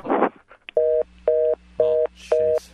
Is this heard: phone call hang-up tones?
yes